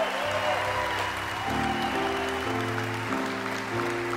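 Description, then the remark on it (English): An audience applauds steadily in a dense, continuous wash of clapping, cheering on four people about to be shown on a screen, while sustained musical chords shift underneath every half second or so. “Come on! Give it up!”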